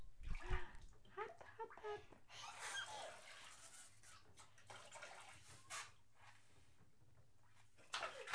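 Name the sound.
water sloshing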